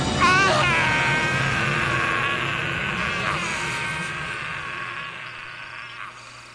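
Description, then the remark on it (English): A man's long, agonized scream, high and strained with a wavering, quavering pitch, holding loud for several seconds before slowly tapering off; the voice of the Jedi Exar Kun falling into the darkness, sounding like a man being eaten alive. “That scream. What is it? It sounds like a man being eaten alive.”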